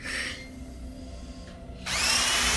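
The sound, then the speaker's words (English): A hand drill, tested before being added to a tray of surgical instruments, whirs briefly, pauses with a faint hum underneath, then spins up again loudly with a high, steady whine, heard alone without any talking. “tests a hand drill and adds it to her tray of surgical instruments.”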